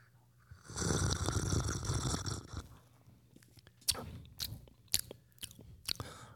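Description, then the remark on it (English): A noisy slurping sip of a ginger ale flavored drink lasting about two seconds, followed by several sharp wet mouth clicks and a swallow. No one speaks. “I'm about to take a sip.”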